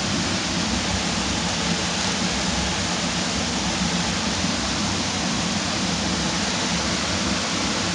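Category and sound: nature, waterfall flowing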